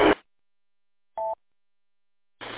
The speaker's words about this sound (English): Oh, the echo you're hearing is I've got a scanner on in the background because I don't have a base radio set up right now, so I just leave a little Bearcat scanner going. Too lazy to go turn the volume down.